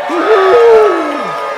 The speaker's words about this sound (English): And let's cheer the heroes of Purim, Mordechai and Esther.